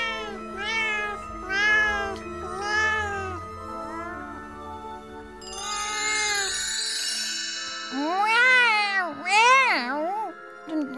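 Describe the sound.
A person imitates a cat with a series of drawn-out, rising-and-falling meows, clear. A bright shimmering tone rings briefly midway before two final louder meows.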